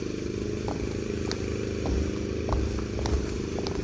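A lawnmower engine runs with a steady, buzzing low drone, holding an even loudness throughout, with a few faint ticks and clattering knocks on top.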